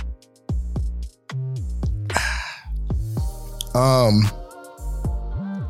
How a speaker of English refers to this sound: Anywho, let me get my water drink in.